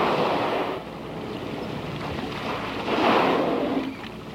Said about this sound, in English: In the stillness of the afternoon, the blows of the whales almost seem to echo off the water before drifting into the steep, forested walls of this bay. Several whales, I'd say at least five, are at the surface now,